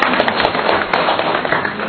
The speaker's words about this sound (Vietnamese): Vâng, một tràng pháo tay thưa anh chị em.